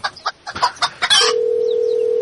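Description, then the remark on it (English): A handful of quick, loud clucks from a chicken sound effect in an uneven burst, cut off by a steady electronic tone that hums on alone to the end. “It was detecting the chicken voice's tones.”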